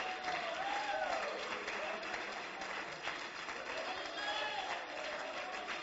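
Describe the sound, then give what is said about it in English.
A church audience claps their hands in a steady, dense wash of applause lasting the whole clip, with voices calling out over the clapping. “Clap your hands.”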